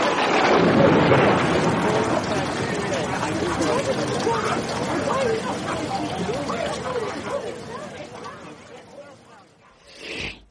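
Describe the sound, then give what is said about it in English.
A storm that drenched everyone opens with a loud, booming thunder crash, then a dense roar of wind and rain that gradually fades, with indistinct voices mixed in and a brief hissing burst at the end. “It was at this point that the weather really got bad.”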